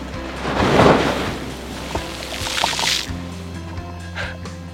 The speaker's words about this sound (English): You've got all these beautiful sailboats, you've got pelicans. Just saw two dolphins. Sun's beginning to set. It's a rough life. Uh-oh, here comes a wave.